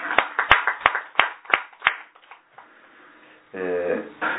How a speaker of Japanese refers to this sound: 盛大な拍手でございます